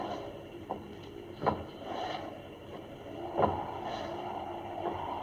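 A cane taps alongside uneven, limping footsteps: five or six dull knocks spaced irregularly and growing slightly louder, over a steady hiss of rain, with no voices.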